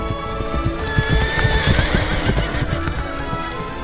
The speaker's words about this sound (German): Das Läppchen aber steckte die Königstochter in ihren Busen, setzte sich aufs Pferd und ritt nun mit der Kammerjungfer rasch von zu Hause fort.